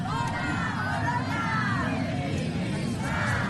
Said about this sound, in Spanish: Gritos de manifestaciones, como decimos, en ese Día de la Mujer.